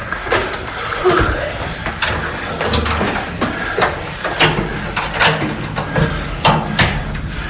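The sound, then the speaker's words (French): A heavy oak door in the bell tower of Fribourg Cathedral, Switzerland, being opened to reach the largest bell of French-speaking Switzerland: a run of solid wooden clunks, knocks and latch rattles at an uneven pace, with faint voices murmuring in the background. “Et durant notre ascension, on fait une halte à l'un des paliers pour découvrir le plus grand bourdon de Suisse romande derrière une lourde porte de chêne.”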